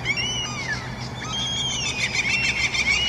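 Gulls outside a bedroom window at 6:15 in the morning call repeatedly in a harsh, high-pitched chorus, their cries sliding up and down in pitch and overlapping steadily throughout, with no one speaking.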